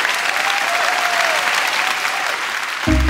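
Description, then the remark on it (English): An audience claps steadily for two women in a dense, continuous wash of applause, loud and unbroken, with a faint tonal hum beneath and a sudden low thump right at the end. “Can you join me in giving these two incredible women a round of applause?”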